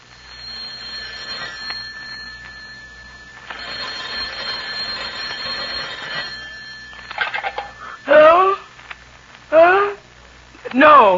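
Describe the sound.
A telephone is dialed and then rings with a steady electronic tone for several seconds before a voice answers and starts talking.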